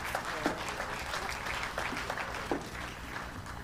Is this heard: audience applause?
yes